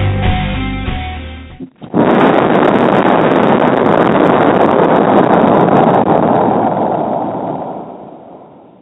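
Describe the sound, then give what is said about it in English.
A brief musical sting cuts off, then a loud explosion sound effect bursts in with a broad, roaring blast that rumbles on for several seconds and slowly fades, opening the Paranormal Talk Radio show. “Wow, love that explosion.”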